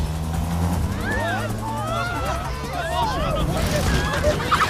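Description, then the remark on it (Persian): A car engine hums low and steady as the car is driven through a dense street crowd gathered for a show, with many voices murmuring and calling out all around it, the babble rising and falling for several seconds. “عمرم بشه ماشین رو از این جمعیت رد کرد.”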